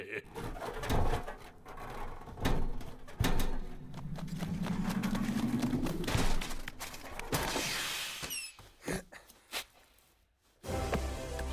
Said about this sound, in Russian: Ну что, пролетели пташки?